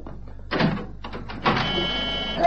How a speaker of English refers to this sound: Shut the door quickly before he's heard.